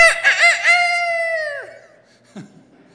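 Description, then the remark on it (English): A single loud rooster crow rises in a few choppy bursts, then holds a long sustained note before dropping off, followed by a short faint knock and quiet. “Enough to make a chicken crow.”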